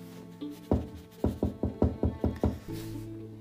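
Knocking on a sponsor's (padrino's) door: one solid knock, a short pause, then a quick, even run of seven firm knocks, each a hollow thud, over a faint steady tonal hum.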